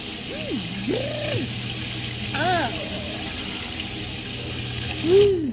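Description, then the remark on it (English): A cold shower runs in a steady, hissing stream, while a voice lets out several wavering, sliding yelps and gasps at the cold water over the spray, the last one a bit louder. “Now, take a nice cold shower and hurry.”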